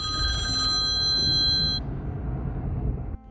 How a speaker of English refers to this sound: Sorry about that, folks. The old phone rang, and you know, when you do the program here on the cell phone, sometimes you have to answer it. Otherwise, it just keeps ringing in the program, and you guys hear the ringing.